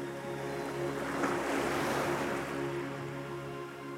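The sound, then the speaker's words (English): Steady ocean surf washes in and out, a broad continuous rush of water that swells and eases gently, with a low hum running underneath and no voices. “And notice the waves as they bring in gifts of restoration and renewal.”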